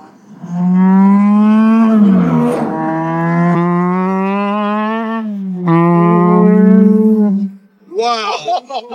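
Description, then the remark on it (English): A supercharged car engine drones loudly at a fairly steady pitch for several seconds, dipping briefly before settling, then cuts off as a voice speaks briefly at the end. “You know why I love supercharged engines? It's because they feel naturally aspirated.”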